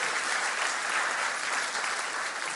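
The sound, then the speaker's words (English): A crowd at Asbury in Wilmore applauds the Zealous class for its service work, a dense, even wash of many hands clapping that holds at a constant moderate loudness for a few seconds with no voices rising above it. “You can clap and say this is cool.”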